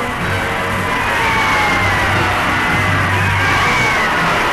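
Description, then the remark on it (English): A large crowd roars and cheers in the streets of Seoul, South Korea, celebrating after riots toppled the government, in a dense, continuous wash of voices, with scattered yells and whoops rising above the steady, loud din for several seconds. “The crowd's victory won, the riots turn into a celebration.”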